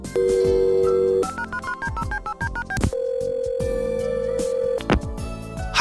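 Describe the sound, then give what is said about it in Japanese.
A steady dial tone gives way to a quick run of stepped keypad beeps as the number of a tour organizer, Muse Tours Milano, is dialed, then a long ringback tone sounds before a click ends it; no one speaks. “手遅れになる前に主催者に電話しておいた方が良さそうね。”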